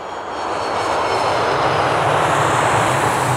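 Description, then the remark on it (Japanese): A jet airplane roars, its engine noise swelling in the first half-second and then holding as a loud, steady rush, like a plane taking off or landing at the international airport with the most takeoffs and landings in Japan. No voices. “例えば、日本で最も離着陸機が多い国際空港では、混雑時およそ45秒に1機の間隔、通勤電車を上回るほどの、まさにラッシュアワーです。”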